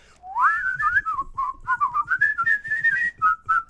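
A person whistles a lively, wavering tune for several seconds, the notes sliding up and down in quick phrases, close and clear with no talking.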